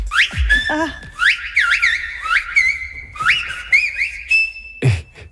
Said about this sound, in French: c'est une langue qui se parle dans les îles Canaries et vraiment les gens s'interpellent en sifflant